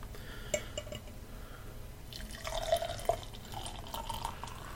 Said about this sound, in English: It pours nicely. It's still got a lot of carbonation in it. Fills out the glass quickly. There you go. Certainly the head grows fast once you fill it up. It does.